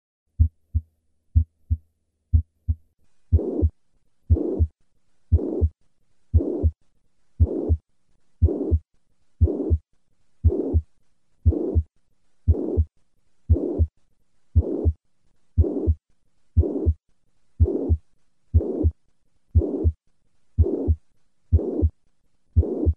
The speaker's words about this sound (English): To recap, the murmur of mitral regurgitation is systolic, maximum at the cardiac apex, and plateau-shaped in character. Listen once again to a patient with classic mitral regurgitation.